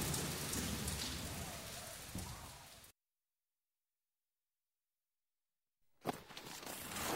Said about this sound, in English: Oh no, it's raining again and I haven't got my hat. Come and stand under my umbrella.